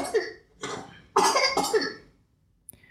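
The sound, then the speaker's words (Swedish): A small boy coughs several times in quick, harsh bursts, followed by a brief pause and a faint click at the end. “Det är min lilla hostande son här.”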